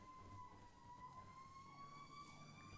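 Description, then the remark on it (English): An ambulance siren wails steadily, its high tone sustained over a low rumble of traffic, with no voices present. “Lord, I just pray for whoever it is that this ambulance is going after.”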